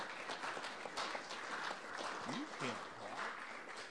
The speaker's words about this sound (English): This group is so busy and is so hardworking on behalf of this organization, and I want us all to give a huge applause to the Resolutions Committee and its chair.